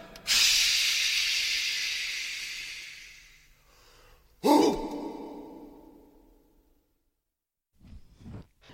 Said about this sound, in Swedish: Släng mera vatten, släng mera vatten, släng mera vatten på stenarna.